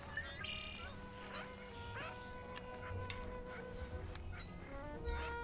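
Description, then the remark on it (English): A blue-winged teal duck, foraging in cattails on the shoreline of a pond at Walden, gives a series of light, high peeping calls, short and repeated at irregular intervals over a low, steady background rumble. “So it has this light peeping noise. Peep, peep, peep, peep.”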